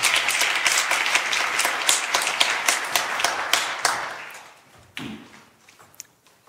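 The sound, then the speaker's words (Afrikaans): An audience applauds a song with steady, dense clapping that fades out after about four seconds, leaving a few scattered claps and a soft thud. “Dus we gaan even lekker aan een klap geven voor jullie beautiful song.”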